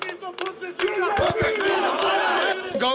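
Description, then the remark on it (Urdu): A large crowd of National Conference leaders and workers shouts and chants together at a protest march in Srinagar against civilian killings, in loud, overlapping voices, rising into a sustained roar with a few sharp thumps near the start. “اس دوران national conference کے لیڈروں اور کارکنوں نے شہری ہلاکتوں کے خلاف سری نگر میں ایک احتجاجی جلوس نکالا.”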